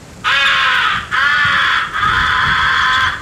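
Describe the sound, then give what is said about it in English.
Three long, raspy caws blown on a crow call, the comeback call used to bring back crows that have been shot at. The caws are loud, each drawn out with brief gaps between them and no talking. “The fourth essential call is the comeback call.”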